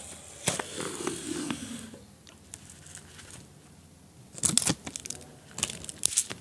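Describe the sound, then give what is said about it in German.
Tesafilm sticky tape is pulled off a roll in a few short, crackling rips, with a brief squeal early on and louder tearing bursts near the end, with no talking. “vielleicht noch ein bisschen Tesafilm abziehen.”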